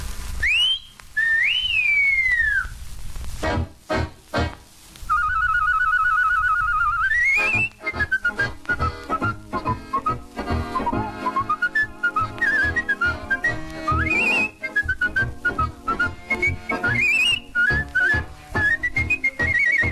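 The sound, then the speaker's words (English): A person whistles a tune loud and clear, opening alone with sliding notes, then carrying the melody over a busy instrumental accompaniment, with occasional upward swoops. “You know the whistle we girls are waiting for.”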